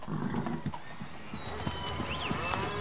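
Hooves of a saddled horse, Spirit, being led outside clip-clop at an unhurried walking pace, a steady run of distinct steps, with faint high chirps drifting in the background.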